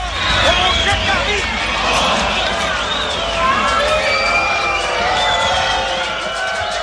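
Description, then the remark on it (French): A large, loud crowd gathered in front of a door, waiting for the people inside, fills the scene with a steady roar of overlapping voices, shouts and chatter, continuous throughout with occasional sharper calls rising above the din. “attendez avant de sortir, il y en a toute une flopée devant la porte et c'est vous qui nous attendent.”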